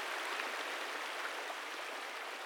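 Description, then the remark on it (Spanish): Rushing water of a river that has burst its banks beside a bridge, a steady, dense roar of churning flow that holds constant throughout, without any voices. “Un día el río se desbordó.”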